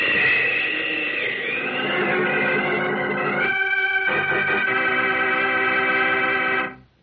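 A loud, continuous roar of a four-engine transport plane falling out of control in a spin, its droning whine wavering in pitch and holding steady for several seconds before cutting off abruptly.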